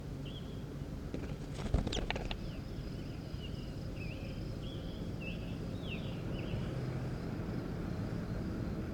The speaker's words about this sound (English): Start recording, here goes bird 14.